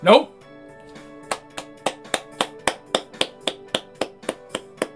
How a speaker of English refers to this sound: Let's give him a round of applause here. You know, that's just one man clapping, but hey, I hope all you guys are clapping.